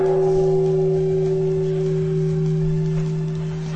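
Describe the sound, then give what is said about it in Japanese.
A deep Buddhist temple bell resonates loudly and steadily, its low humming tone sustaining evenly throughout with no voices present. “はい、なんかまだ除夜の鐘が鳴り響くには、早いですよ。”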